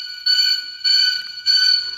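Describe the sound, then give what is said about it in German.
A bright, ringing bell-like jingle used as a trigger-warning sound for very scary content or spoilers repeats three times in a steady rhythm, each burst about half a second long with sustained high tones, sounding alone without any voices. “Diesen Sound hört ihr immer, wenn es in dieser Ausgabe ja um irgendetwas sehr, sehr Gruseliges geht und vielleicht auch einen kleinen Spoiler oder so.”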